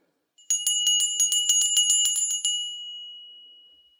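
A small hand bell rings rapidly, about a dozen quick bright strikes over two seconds. Its clear, high tone then hangs and slowly fades. It is fairly loud, with no voices.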